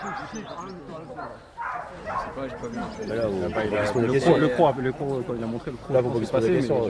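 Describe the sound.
A dog barks and yelps excitedly in rapid, overlapping bursts, loud, during bite work training as it bites a man in a padded protective vest who falls to his knees, while people talk and shout over the commotion.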